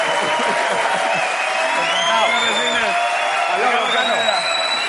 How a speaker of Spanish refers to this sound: Un aplauso para Antonio Resines y para mi padre, que ha venido el tío ahí.